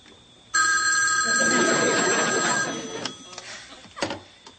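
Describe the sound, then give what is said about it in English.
A telephone rings loudly in one sustained, bright electronic trill lasting about two seconds, then cuts off, followed by a few quiet clicks and shuffling sounds. “phone for you.”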